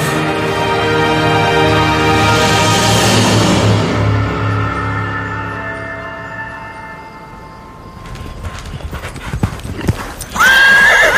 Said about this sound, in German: Wiehernd und schnaubend hatte sich das starke, hochgewachsene Tier aufgerichtet.